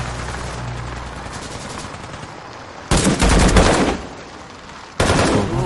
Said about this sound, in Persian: خلافکاران دارن به همدیگه شلیک میکنن.